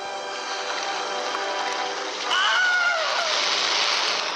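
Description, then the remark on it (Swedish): A classic stock film scream, whose original scene is said to come from the 1951 film Distant Drums: a short, shrill cry that rises and then falls in pitch, breaking out over a steady wash of splashing, rushing noise that grows louder as it starts. “Ni kan gärna dubbelkolla det om ni vill veta säkert, för att det här är ju inte liksom källsäkert så, men skriket är i alla fall här.”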